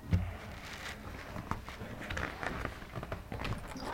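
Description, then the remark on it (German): A book page being turned: soft papery rustles and light handling taps come in irregular bursts over a few seconds, with no one talking. “Ich kann es einmal umblättern.”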